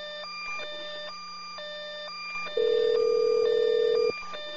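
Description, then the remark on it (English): Electronic telephone tones of an outgoing call to Salt Lake repeat in a steady stepped pattern, then a loud sustained beep cuts in for about a second and a half before the repeating tones return. No voices are heard. “All right, let's call Salt Lake and discuss this with them.”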